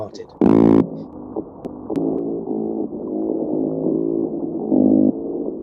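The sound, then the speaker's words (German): Loud, low, buzzing underwater calls of umber fish (Umbafische) rumble and croak in a steady series of bursts, heard through a boat's hull and sounding a lot like flatulence, with one especially strong blast near the start. “Die Laute der Umbafische sind sehr laut und klingen, als hätte jemand Blähungen.”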